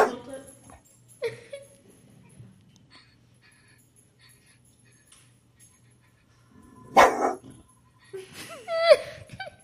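dog barking and whimpering

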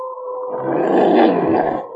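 wolf howling

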